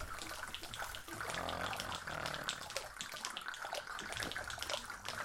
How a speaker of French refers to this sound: Cette nuit-là, il y eut une grosse pluie autour de la bicoque pointe.